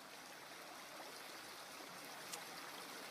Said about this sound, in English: I want you to imagine that you are in a beautiful garden. Waterfalls flowing.